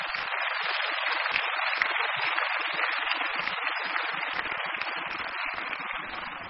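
An audience claps steadily in a dense, sustained round of applause for a quintet, holding an even loudness for several seconds with no voices over it.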